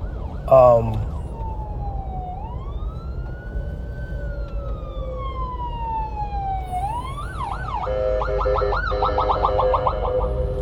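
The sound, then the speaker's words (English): An ambulance siren goes by, its long rising and falling wail switching to a rapid yelp near the end, fairly loud over a low traffic rumble. “I had to let an ambulance go by here.”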